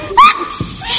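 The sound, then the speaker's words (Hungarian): A single loud sneeze: a sharp, high-pitched voiced gasp that bursts out and trails off into a breathy hiss, with no talking. “Egészségére. Köszönöm.”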